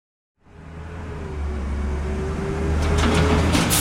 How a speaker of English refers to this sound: Hi, my name is George, and I am a garbage truck. I help keep this city clean. Since this is your first day on the job, I will show you what I do here. First, we drive around the city and collect garbage just like this.